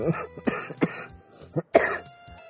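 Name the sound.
coughing fit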